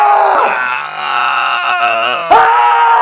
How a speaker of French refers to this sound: Puis dans le milieu de la nuit, alors qu'on dort, tout le monde dort, on entend au loin des cris.